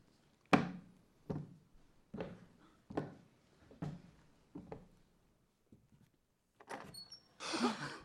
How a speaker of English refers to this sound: Well, someone could have opened this door for me!